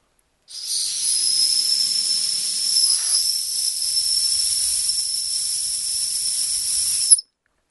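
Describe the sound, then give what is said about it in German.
A single long, shrill whistle blown steadily for about seven seconds to lure cats into a dead-end street, airy and hissing at the edges, fairly loud, with no voices around it before it cuts off abruptly. “Tierchen kann alle Tatzen mit einer Pfeife herlocken.”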